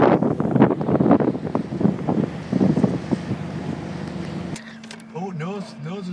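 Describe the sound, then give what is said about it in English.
Loud, steady rushing of wind and churning water from a fast-moving boat, heard from a lower deck on board, with a low rumble and gusty bursts, cutting abruptly to a person talking in the last second and a half. “So we've come a deck further down now. We are moving. We're going fast.”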